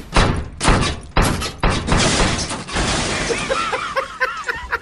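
A refrigerator being lowered down a flight of stairs during a house move crashes down them: a run of loud, heavy thuds and bangs, then a long rattling clatter with bright metallic pings as it settles. No one speaks.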